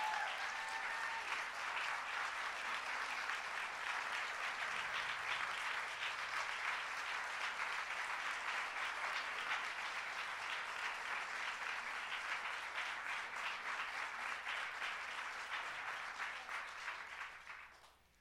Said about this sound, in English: Sarah Weddington, who argued Roe v. Wade, here today on the 46th anniversary of Roe v. Wade. Let's give Sarah a big round of applause.